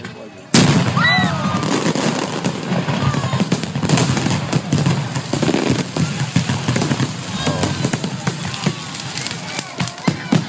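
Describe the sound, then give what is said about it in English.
Rapid, chaotic fireworks blasts and crackling bursts erupt suddenly and continue densely, loud, with whistling streaks and what sounds like crowd voices shouting underneath, as fireworks in Simi Valley go sideways after their platform collapsed, injuring many people. “But anyway, in Simi Valley, the platform that the fireworks were on actually collapsed. So fireworks that should have gone up went over.”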